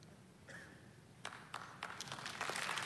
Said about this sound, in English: Some of you, you're clapping very uncomfortably right now. Some of you just do a golf clap because you don't want people to, you know, mess with you.